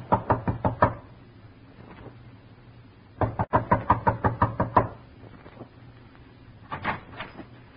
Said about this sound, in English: Knock.